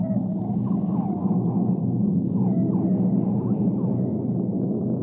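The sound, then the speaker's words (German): A deep, steady underwater rumble of an earthquake in the sea fills the whole stretch, low and heavy without letting up, while faint rising whale-like calls drift faintly above it. “Und was kann den Wal jetzt erschüttern im Meer? Wal, was denkst du? Ein Erdbeben zum Beispiel.”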